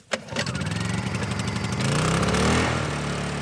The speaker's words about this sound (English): Generators fire, power tools rev up to clean out the cracks so they can be filled with cement and sealed.